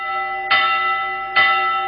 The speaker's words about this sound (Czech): Dečanska zvona ili Svetkovina srca.